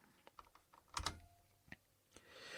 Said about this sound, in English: A small demonstration. You can see I already started typing